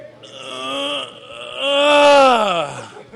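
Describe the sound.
A team member imitates a teammate's weight-room lifting grunt: two drawn-out, groaning pushes, the second louder and sliding downward in pitch as it trails off.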